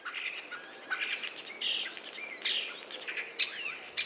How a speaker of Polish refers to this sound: Tak, i taki miszmasz z jednego kierunku, z jednego dzioba. Nie trudno się domyślić, że to właśnie szpak, chociaż zazwyczaj można go zobaczyć na czubku drzewa, przy budce lęgowej, na czubku dachu.